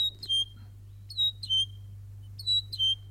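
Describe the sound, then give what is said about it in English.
A saddleback (tīeke) calls in three evenly spaced bursts, each a pair of sharp, bright, whistled chirps, heard clearly over a steady low background hum. “I'm just laughing because I'm like, I found a really good bird sound”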